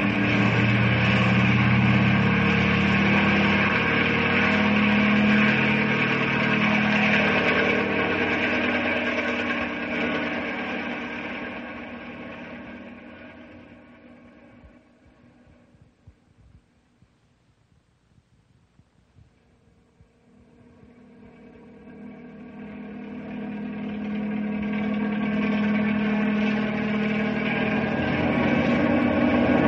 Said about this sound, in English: Bring the copter closer, Bill.